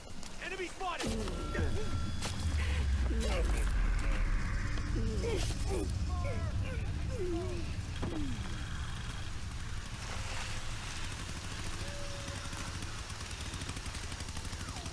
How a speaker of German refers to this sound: Kommt das der mit der Kettensäge oder was knattert da so?